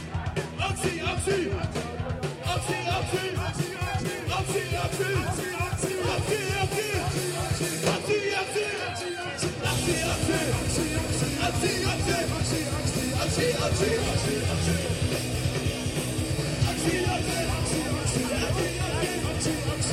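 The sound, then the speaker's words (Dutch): A large crowd shouts the protest chant "Actie, actie!" in loud, rhythmic bursts, the massed voices continuous, with a brief lull midway before the shouting surges back just as strong. “Dus ik wil even vanuit de grond van je hart. Wil ik jullie horen schreeuwen, oké?”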